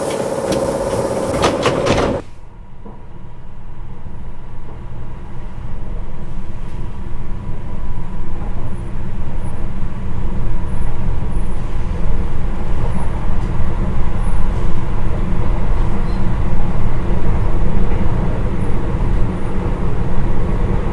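Train doors slide shut with a short, loud burst of noise, then a steady low rumble builds and carries on as the Gensokyo Railway limited express train pulls away from platform 1, with no voices.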